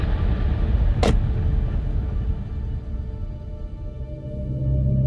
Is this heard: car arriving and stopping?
yes